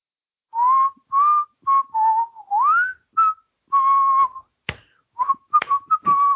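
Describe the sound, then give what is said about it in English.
Someone whistles a Christmas tune into a pop filter in clear, bright sustained notes with short pauses between phrases, and a couple of sharp clap-like clicks break in near the end. “It's kind of hard because I'm whistling into my pop filter”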